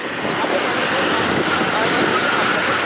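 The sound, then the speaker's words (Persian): Israeli tanks and armored vehicles rumble along around the Gaza Strip in a steady, unbroken roar of heavy engines, a dense, noisy wash of sound that holds at an even, fairly loud level throughout. “صدای تانک‌ها و خودروهای زرهی اسرائیلی در اطراف نوار غزه.”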